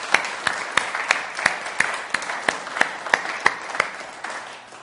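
An audience applauds steadily for several seconds, a dense wash of clapping punctuated by a few sharp, evenly spaced louder claps in a quick regular rhythm.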